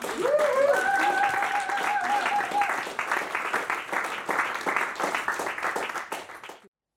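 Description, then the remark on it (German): An audience bursts into dense, steady applause that holds for about six seconds, with a brief high vocal cheer near the start, before the clapping cuts off quickly. “Ein Applaus an dich.”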